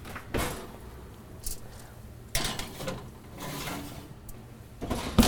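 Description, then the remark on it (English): An oven door opens and shuts with a few solid clunks and a short scraping rattle in between, ending with a firmer thump as it closes, as 12 chocolate chip cookies are put in to bake for 13 minutes at 350 degrees. “We're gonna put them in the oven for 13 minutes at 350.”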